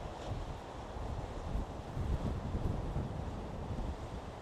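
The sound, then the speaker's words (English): A steady, rumbling roar of Irish Sea surf about 200 feet below a steep cliff, waves crashing continuously against rocks, heavily mixed with buffeting wind noise on the microphone, on a warm early-September day. No voices. “It's all rocks at the bottom and all the waves crashing.”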